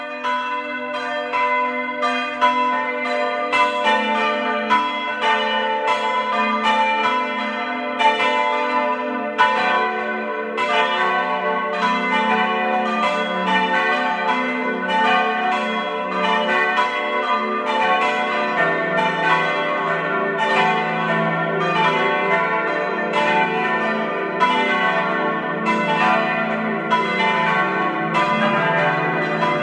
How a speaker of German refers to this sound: Es ist 12 Uhr. Sie hören die Glocken der Pfarrkirche zu den Heiligen Ulrich und Jakobus aus Obertiljach in Osttirol.